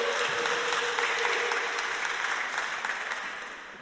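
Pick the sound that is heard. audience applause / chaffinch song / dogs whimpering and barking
audience applause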